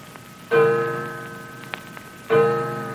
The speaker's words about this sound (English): grandfather's clock in the hall was chiming.